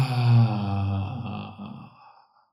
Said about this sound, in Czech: Nadechněte a zádrž. Zadržte všechno v těle. A výdech.